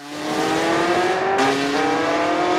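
A car engine revs loudly, its pitch climbing steadily, then shifts gear and keeps accelerating as the vehicle pulls away, with no voices.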